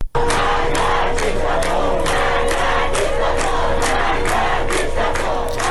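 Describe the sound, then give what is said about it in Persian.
A large group of students chants protest slogans in unison at the University of Isfahan, loud and steady, with a strong rhythmic pulse of shouted syllables that carries on without a break. “دانشجویان همچنین در دانشگاه اصفهان شعار دادند.”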